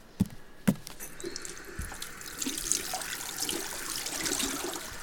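Water runs steadily from a tap into a sink, with a couple of sharp knocks near the start and soft splashing as hands are washed with water only, without soap. No one speaks.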